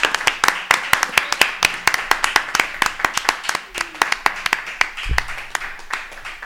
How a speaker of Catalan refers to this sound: Home. Vinga, un aplaudiment.